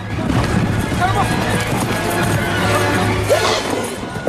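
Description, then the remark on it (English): Rapid horse hooves pound along at a gallop as a runaway horse, spooked by a firework, drags a woman by a rope around her neck; steady, amid a dense, noisy background with a low hum and indistinct voices. “The police officers manage to slow the horse to a halt, but a firework makes it speed off again.”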